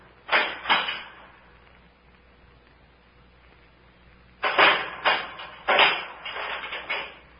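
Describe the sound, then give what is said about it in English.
A short burst of rattling and knocking, then a pause, then a longer run of clattering, scraping and thuds as a door is unchained, opened, something is put inside it, and it is shut again. No one speaks. “They're unchaining the door.”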